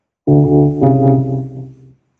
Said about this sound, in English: What would happen if you did that, but if the keyboard was set to, like, you know, organ or something? It would sound like this.